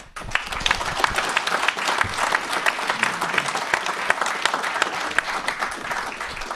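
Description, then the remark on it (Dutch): Sustained applause from a crowd thanking a retiring board member for his years of service, a steady dense patter of many hands clapping at even loudness for several seconds, with no voices standing out. “omdat jij aftreedt, willen we je inmiddels een hartelijk klaterend applaus ontzettend bedanken voor al die jaren.”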